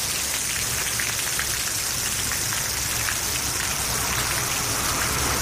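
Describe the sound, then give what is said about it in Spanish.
Heavy rain pours down steadily over Lugo during the first big autumn storm, a dense, continuous hiss with scattered droplet patter and a low rumble beneath, loud with no voices throughout. “En las últimas horas llovía intensamente sobre Lugo.”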